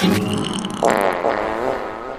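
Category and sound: human body sound, fart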